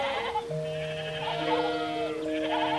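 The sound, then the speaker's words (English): A voice imitates a sheep with a long, wavering 'baa' bleat, held for nearly three seconds, with overlapping tones that shift slightly in pitch partway through. “I'll make myself as tiny as I can, and I'll pretend I'm a sheep. Bah!”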